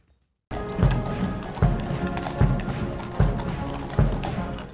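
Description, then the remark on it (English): Slow, evenly spaced hoof thuds of the horse-drawn carriage carrying the Queen's coffin from Buckingham Palace to Westminster Hall in a solemn procession, each beat firm, under a dense, continuous wash of background sound that starts abruptly after a brief silence. “The Queen's coffin was carried on a horse-drawn carriage, with a purple cushion and crown sitting above it, and a wreath with white roses.”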